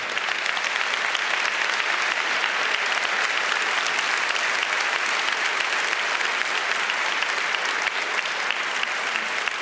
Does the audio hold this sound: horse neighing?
no